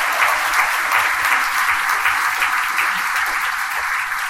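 A crowd claps steadily in sustained applause, a dense, even wash of many hands that stays loud from start to finish with no one speaking over it.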